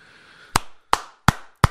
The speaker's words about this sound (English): And so this is the sound that you want to convey. Listen to that. If you're in the audience, I act on the stage. If I heard somebody clapping like that, I'm digging that person